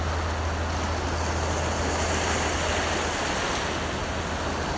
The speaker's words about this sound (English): And the waves begin to touch your toes as the tide comes in.